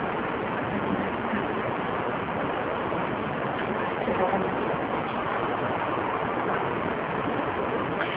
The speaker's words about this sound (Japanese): 小川のせせらぎのような音、それを聞いた方はおられますか？